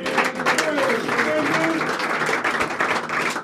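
A room full of people claps steadily, a dense, sustained wash of applause with a few faint voices mixed in underneath.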